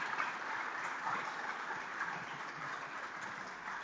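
An audience claps steadily, a dense and even wash of applause lasting several seconds at a fairly constant level, with no voices standing out above it.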